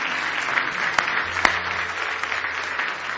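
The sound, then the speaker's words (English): An audience claps steadily in praise of God for a few seconds, a dense wash of many hands from a large crowd, with a couple of sharper claps standing out and no talking over it. “Give Him one more big hand clap of praise if you love Him tonight.”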